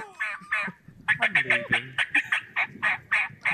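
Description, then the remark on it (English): A turkey gobbles in a fast, bubbling rattle of about a dozen short, loud pulses in steady rhythm, after a brief throaty call at the start. “This is a turkey.”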